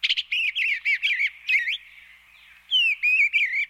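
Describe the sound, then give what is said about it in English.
An eastern bluebird sings a run of soft, warbling whistled notes in quick short phrases, pausing briefly before another burst of sweet, wavering chirps, with no voices present. “Thanks in large part to this community-led advocacy, eastern bluebirds are now thriving.”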